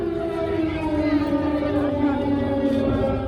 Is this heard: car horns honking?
no